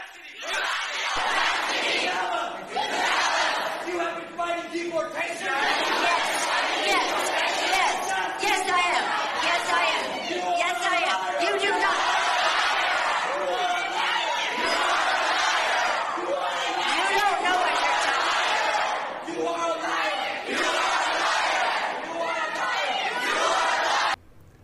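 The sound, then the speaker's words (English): A loud crowd shouts and yells continuously, shouting down Nancy Pelosi at an event in San Francisco. Many voices overlap in an angry, chaotic roar that swells and surges throughout, dense with no single voice standing out. “When Pelosi appeared at an event in San Francisco, she got shouted down by the crowd.”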